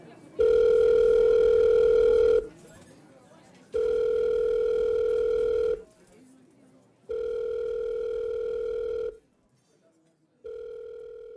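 A telephone ringback tone purrs four times in a steady rhythm as a call is placed to a phone number, each long electronic ring separated by a short pause, heard loud like through a handset.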